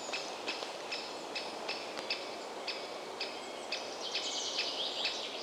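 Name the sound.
great spotted woodpecker calling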